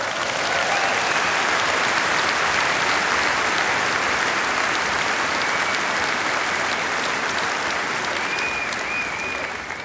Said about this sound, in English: Give him an enormous applause, the king of the waltz, Johann Strauss.